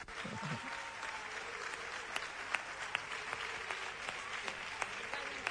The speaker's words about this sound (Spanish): El eterno capitán Jesús Vázquez, un aplauso.